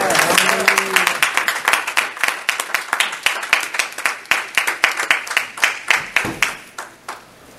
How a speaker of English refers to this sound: Give the Lord a hand clap and pray.